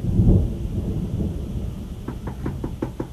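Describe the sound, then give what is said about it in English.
A deep rumble of thunder rolls in over a steady wash of heavy rain in Dayton, with water overflowing into the streets, fading into the downpour, then several sharp, evenly spaced taps sound near the end. No one speaks. “Good heavens, who is out in this rain?”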